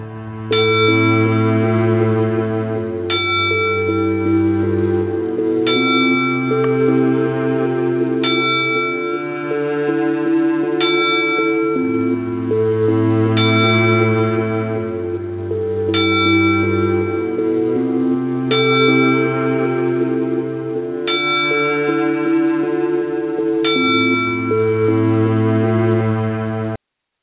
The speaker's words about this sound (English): This 10 bell salute is for another legend lost, another icon that's gone.